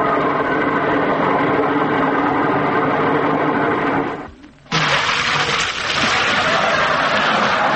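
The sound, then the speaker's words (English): A train to Buffalo, New York rumbles along with a loud, steady mechanical roar and rattling. The noise briefly drops away for a moment, then returns brighter and harsher, continuing with clattering texture. “Come on, let's jump on the train.”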